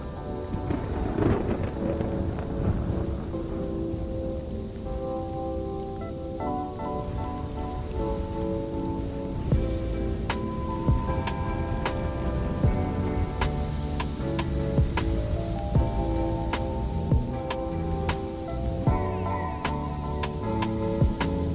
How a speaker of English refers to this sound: you actually encounter a thunderstorm. It's usually accompanied with heavy snow